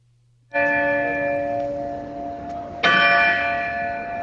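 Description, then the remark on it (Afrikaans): The large 300 kg slave bell at the main entrance of the Castle of Good Hope (Kasteel De Goeie Hoop), South Africa, cast in Amsterdam in 1697, rings out twice, each deep clang followed by a long, shimmering hum of overtones that keeps sustaining; loud, with no talking. “Dit is die gelui van die groot klok by die hoofingang van die kasteel.”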